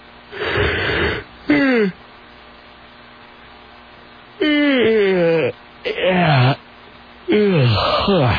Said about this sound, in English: Now I'm yawning and my eyes are watering.